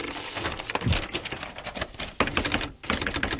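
Rapid keystrokes on a secretary's typewriter clatter continuously for a few seconds, loud, with dense irregular mechanical clicks and a brief pause near the end.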